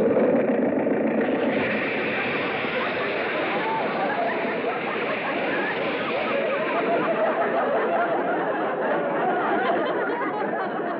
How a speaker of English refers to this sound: Well, the motor sounds okay. You can turn it off.